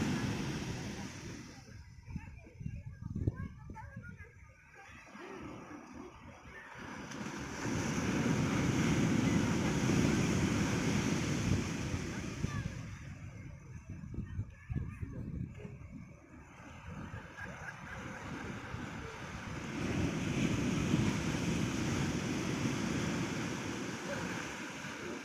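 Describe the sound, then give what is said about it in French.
Ocean waves break and wash onto the beach at Biscarrosse Plage in two big surges, each swelling into a broad roar before receding, with wind noise and faint voices of people bathing in between. “Des gens qui se baignent. Évidemment, ils se font malmener par les vagues.”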